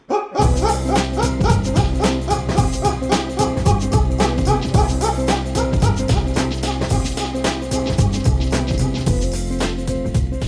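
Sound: dogs barking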